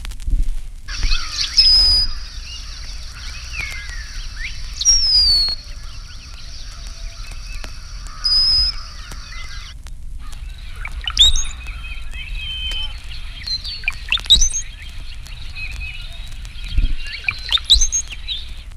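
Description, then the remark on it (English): A male brown-headed cowbird gives repeated high, thin squeals and bubbling liquid gurgles, clear, in short bursts over a quiet outdoor background. “Here are the high squeals and liquid gurgles of a male cowbird.”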